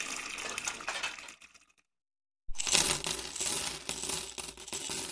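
Coins clatter and jingle with bright metallic clinks, a steady rattling that fades into a short silence before a louder second burst of tumbling coins.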